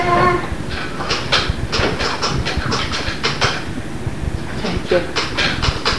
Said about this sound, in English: Dad, you forgot to put your trash out. No, I didn't. Yes, you did. I hear the trash truck.